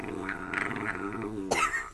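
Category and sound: animal, puppy growling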